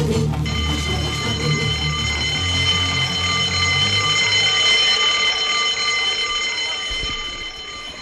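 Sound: school bell ringing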